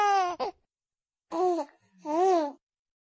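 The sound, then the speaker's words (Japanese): A baby boy on a train lets out three short, fussy babbling cries, fairly loud, with brief pauses between them, then falls quiet for the last half second. “泣きやんだ。”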